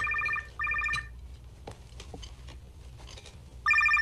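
A telephone rings in a dining room in bright, warbling electronic bursts: two quick rings back to back, a longer pause filled with faint clatter and room noise, then a third ring starting loudly.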